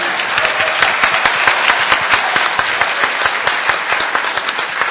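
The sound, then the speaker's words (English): Steady, dense applause from a show audience for the last pick, many hands clapping at once in a continuous crackling wash that holds an even loudness for the full few seconds, with no voices over it. “Hey, another big, big round of applause for that last pick.”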